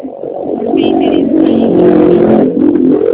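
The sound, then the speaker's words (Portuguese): A motorcycle engine, heard over a phone call, drones loudly and steadily for about three seconds, its low buzzing hum rising slightly in pitch as it passes, with no voices over it. “Eu só ouvi a moto, não estava ouvindo o senhor.”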